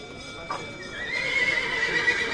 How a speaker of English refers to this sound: The start of sales at Argentina's biggest cattle auction, the Mercado de Liniers. A scrum of buyers bids in some of the 10,000 animals in the stalls and stalks the yammering auctioneer.